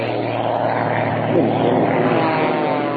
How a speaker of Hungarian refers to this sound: Az ellenzéki politikus idézett egy 2008-as kormányrendeletet is, amely a szervezők kötelezettségének tulajdonítja, hogy bizonyos hang- és zajterhelési szint fölé nem mehetnek lakóövezetekben. Ezt szerinte a repülőverseny nem tartja be.